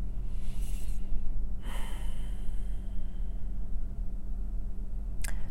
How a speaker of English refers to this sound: I can freaking hear you breathing. I know you're on the other line. I know you're on the extension.